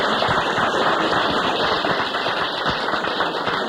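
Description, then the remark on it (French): An audience applauds steadily for a guest, a dense, crackling mass of many hands clapping at a constant, fairly loud level for the whole stretch, with no voices over it. “Bravo, tout le monde vous applaudit.”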